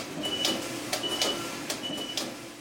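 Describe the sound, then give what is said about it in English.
A knitting machine alarm sounds as a thin, high-pitched beep repeating about three times, signalling that the knitting is ready. Rhythmic mechanical clacks and a steady machine whir continue underneath, with no one talking. “That alarm we hear is telling you that the knitting is ready.”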